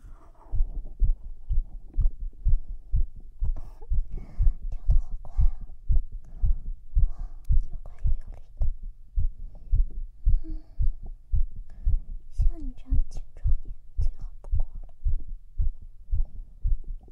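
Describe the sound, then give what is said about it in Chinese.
A steady heartbeat thumps in a regular rhythm throughout, each low pulse distinct and strong, as if heard through a stethoscope, with faint breathy noise above. “你的心跳一点问题都没有”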